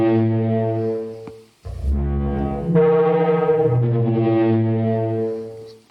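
A computer simulation of a Parasaurolophus dinosaur's call: a deep, loud, sustained honking like a trombone crossed with a foghorn, rising and shifting in pitch across two long blasts with rich buzzing harmonics, heard alone.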